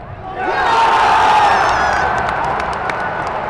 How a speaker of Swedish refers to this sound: Inne på arenan var stämningen på topp med över 31 000 i publiken och det blev en målrik match.